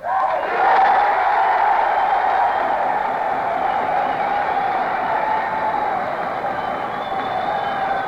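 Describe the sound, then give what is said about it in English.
A large audience at a dinner opening a national campaign applauds and cheers, a loud, steady roar of clapping and voices that holds at full strength for about eight seconds without letting up. “And I'm very happy in your applause, and very happy at the informality of this dinner with old friends of mine.”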